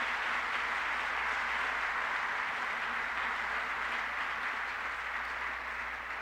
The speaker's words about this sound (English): And give the whole show a big round of applause. I think they worked the devil out of them,